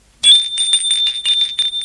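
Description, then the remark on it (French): A doorbell rings with a bright, continuous metallic trill, its clapper rattling rapidly against the bell for almost two seconds, fairly loud, with no voices. “L'on sonne à la porte.”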